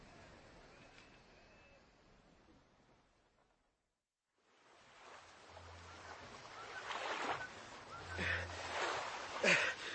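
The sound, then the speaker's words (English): Oars of a rowing boat dip and splash through water in a few uneven strokes, growing louder after a brief silence, with a soft wash of waves and a low rumble underneath. “Shut your mouth and keep rowing.”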